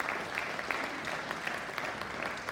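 Steady audience applause, a dense wash of many hands clapping at an even level throughout, with no voices standing out above it.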